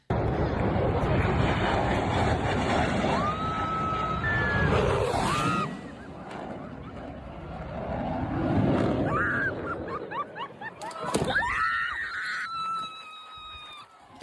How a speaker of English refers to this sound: Dramatic video tonight showing a low-altitude flyover by the famous Blue Angels just above the beach in Pensacola, Florida. People could be heard screaming, umbrellas, tents, beach chairs, all sent flying.